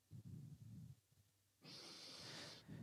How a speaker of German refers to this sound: Das heisst, ihr müsst euch vorstellen, um die 60 geht in seine GL und sagt, ich würde heute gerne das Meeting anfangen mit 3-mal schnaufen.